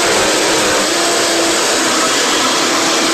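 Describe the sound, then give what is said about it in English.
A blender runs steadily while pureeing a tofu mixture with added vanilla until really smooth, giving a loud, continuous whirring roar with a dense, hissy texture and no pauses or talking. “And we're going to turn it on and puree it till it's really smooth.”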